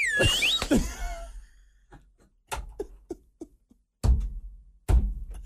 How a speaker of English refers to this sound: Just go out and do a slide whistle here solo.